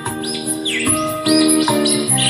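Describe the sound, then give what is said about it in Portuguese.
Small birds chirp and sing at sunrise in quick, repeated high sweeps, clear, over a steady bed of sustained musical tones, accompanying a guitar. “Fico olhando é pra este paraíso, sentindo um grande amor no coração, ouvindo este cantar dos passarinhos que me acompanham é neste violão.”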